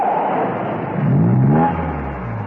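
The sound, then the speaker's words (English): Steed's car comes round the corner of a lane, its engine rising to a revving swell, then easing down to a low idling rumble as the car slows and stops. There are no voices. “When Steed's car appeared round the corner of the lane, she slipped out and thumbed a lift.”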